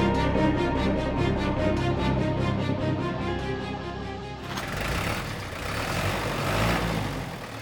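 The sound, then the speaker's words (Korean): The engine of a heavy moving truck, loaded with a miner's family's household belongings and about to leave Sabuk, rumbles steadily, then a loud broad hiss like an air brake release bursts in partway through as the engine keeps running. No one speaks. “이삿짐을 싣고 막 떠나려는 트럭 앞에 서 있습니다.”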